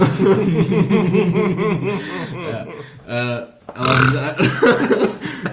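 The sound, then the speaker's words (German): Lustful grunting: a run of low, throaty voiced grunts and snickers, with one deep, drawn-out, burp-like grunt partway through, fairly loud throughout. “dieses lüsterne Grunzen.”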